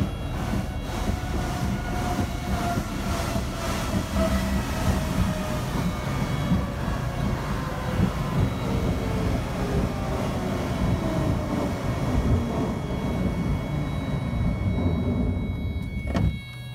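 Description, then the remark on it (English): Loud, steady airplane cabin roar, recorded by a passenger during an emergency landing, a dense low rumble layered with whining engine tones that slowly slide lower, ending in a brief sharp knock; no voices. “But audio recorded by a passenger and uploaded onto social media suggests it was still a harrowing experience.”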